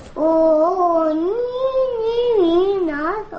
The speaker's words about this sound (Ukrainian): Вона співає колисково ведмедикам і досі не може повірити, що вдома є чай.